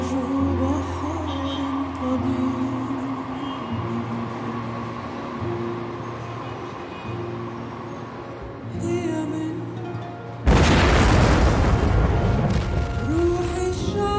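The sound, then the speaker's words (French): A low, steady rumbling drone runs for several seconds, then a sudden, massive explosion bursts in, loud, followed by a sustained roaring wash of noise: the explosion at the port of Beirut, Lebanon, in August 2020. “Peut-être celui-ci s'est-il finalement rompu lors de l'explosion du port de Beyrouth, en août 2020.”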